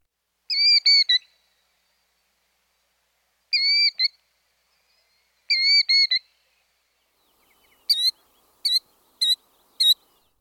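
killdeer calling

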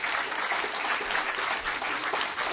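audience clapping

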